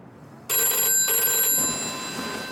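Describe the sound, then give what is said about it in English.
A telephone bell rings loudly in Leonard Lauder's hotel room in Paris at night, its bright metallic trill starting abruptly and continuing in a sustained burst with a brief break. No one speaks. “He fumbles for the phone.”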